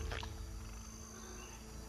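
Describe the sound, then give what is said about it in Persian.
A bullfrog gives a low, droning croak, deep and resonant, heard alone against a quiet outdoor background with a brief higher rustle at the start. “آه، قورباغه گاوی چی؟ خب، خودشو تو دردسر نمیندازه.”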